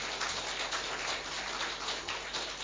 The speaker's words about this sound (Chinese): 好我们这个时候呢，就用我们你们转向会众，就用我们的掌声的方式来表示我们对他们的欢迎和接纳。